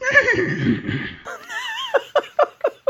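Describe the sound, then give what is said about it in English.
A horse neighs loudly in a film scene on a carousel: a rough, strained cry that breaks into a high, quavering whinny, then trails off in a series of short, sharp, descending pulses. “Did you notice that it neighs?”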